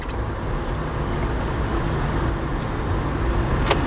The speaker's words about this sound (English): Oh, crap. Sorry, bus. There's a bus pulling out and you want to give way to it, but you just can't. It's just not enough time to do it.